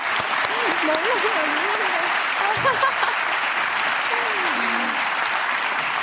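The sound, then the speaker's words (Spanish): A crowd applauds steadily throughout, a dense, sustained patter of many hands clapping, with a man's voice speaking over it, applauding the three friends of a young woman in the audience. “Un aplauso para las amigas de la muchacha, porque...”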